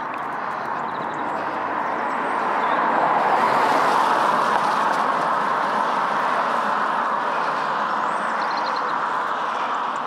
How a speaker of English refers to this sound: So you can hear the water on the road, car tyres making the noise.